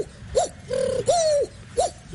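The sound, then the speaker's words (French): A pigeon coos four times in a soft rolling pattern, a short coo, two longer drawn-out ones, then another short one, with no talking. “Pigeon.”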